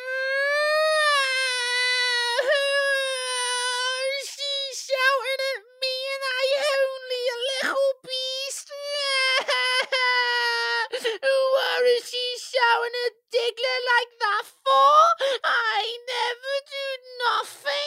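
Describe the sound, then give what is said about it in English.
A baby bawls in a long, high-pitched, unbroken wail, then breaks into choppy, gasping sobs and whimpers, loud throughout with no other sounds. “His cries set the other babes off, weeping and sobbing.”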